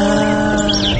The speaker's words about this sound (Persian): ای بابا گوش کن، صدای جیک جیکشو گوش کن.